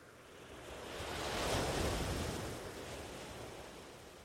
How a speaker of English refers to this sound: And the waves are quite small today.